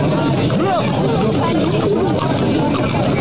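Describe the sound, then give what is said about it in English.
A loud, heated crowd at City West at night roars continuously, many overlapping voices shouting and chanting at once in a dense, unbroken din with raised, rising calls cutting through. “Okay, so that just gives you a little flavour of the noise last night at City West.”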